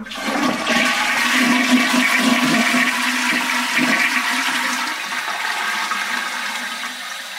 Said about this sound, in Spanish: ¿Sabías que cuando descargas la cisterna del water closet, en la mayoría de los inodoros el sonido da un bimemol?